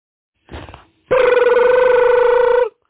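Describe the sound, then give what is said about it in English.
A phone ringing: a brief buzzy chirp, then after a short gap one long, loud, steady electronic ring with a bright, harsh tone and slight warble, alone with no voices. “Hey, man, you can get your phone.”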